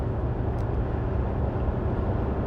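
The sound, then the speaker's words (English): A heavy 18-wheeler semi truck, Mohawk written on it, roars along the interstate at about 90 miles an hour hauling cargo, a loud, steady rumble of engine and tire noise with deep low-end drone and no break or fade, continuous throughout. “God, I mean, is there a reason you're going 90 miles an hour hauling thousands and thousands of pounds of merchandise or whatever you're hauling?”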